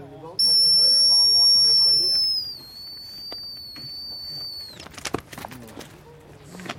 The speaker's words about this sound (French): donc je vais rappeler, hein, à l'aide d'un sifflet. Comme ça, le chien va décrocher et venir se récompenser tout seul.